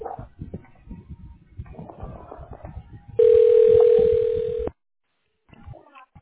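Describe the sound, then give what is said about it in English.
A single loud telephone ring tone sounds for about a second and a half as a phone call is being transferred to a specialist, a steady electronic buzz over faint background murmur, then cuts off into brief silence. “Okay, let me connect you.”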